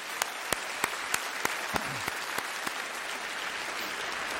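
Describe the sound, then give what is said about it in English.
An audience claps hands for the Lord, a crisp steady rhythm of loud claps riding over a dense wash of scattered applause that continues after the beat fades. “You don't have to shout, but you could give the Lord a good hand clap right now for that.”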